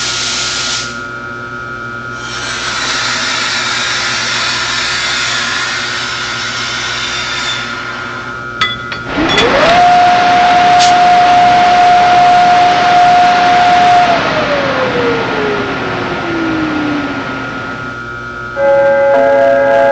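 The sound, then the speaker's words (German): A train passes through a station at track 1 without stopping, with a loud, steady roar, a tonal whine rising, holding for several seconds, then sliding downward in pitch as it passes, before the noise settles back. “verehrte Fahrgäste, bitte Vorsicht am Gleis 1. Ein Zug fährt durch.”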